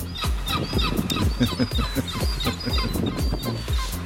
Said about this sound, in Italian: ci sono dei gabbiani